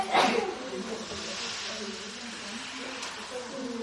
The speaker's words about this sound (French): Donc, c'est un chapeau en fait avec du sel et du cuir. Tu reprends le principe du tambour océan, donc il fait le bruit des vagues comme ça.